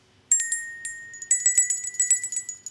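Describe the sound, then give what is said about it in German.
A small table bell rings with a bright, sustained metallic tone, struck once, then tapped in a quick, jingling series of repeated rings, fairly clear with no voices. “Was ist denn so die kleinste Tischglocke, nennt man die, glaube ich, ne?”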